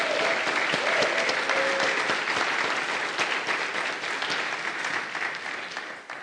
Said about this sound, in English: And by the way, I think we need to give Rob a hearty round of applause for all of his hard work this past couple weeks.